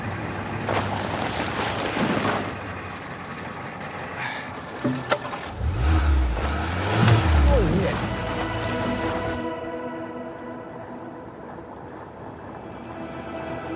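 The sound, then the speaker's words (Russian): A car engine revs up and down a couple of times midway as the car is used to tow, fairly loud, over steady rushing outdoor noise like wind or water, with muffled voices in the background. “Подтяну машиной.”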